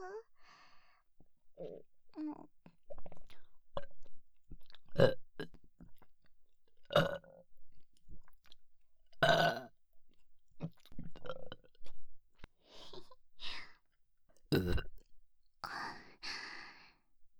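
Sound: burping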